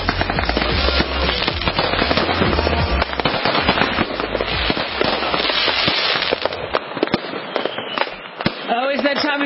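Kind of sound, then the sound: sound effect, fireworks exploding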